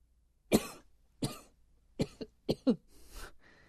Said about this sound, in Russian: Вот вы, ребята, которые кашляют